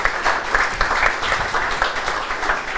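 Steady applause from an audience welcoming a guest, a dense wash of many hands clapping at moderate loudness without pause, with no voices standing out.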